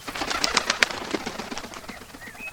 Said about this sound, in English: film a large black crow emerging from the darkness. The bird cawed at them twice before taking to the skies.